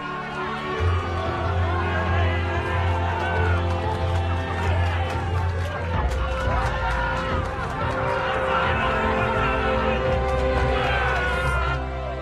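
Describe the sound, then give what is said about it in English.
A crowd in a pub cheers and shouts together, a dense, loud roar of voices with scattered claps and sharp clatters, holding steady for the whole stretch over a low, constant hum. “In the pub, they cheer.”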